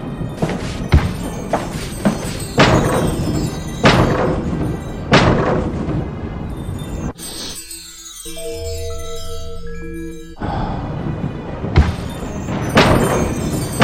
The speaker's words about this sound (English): I'm running into the door.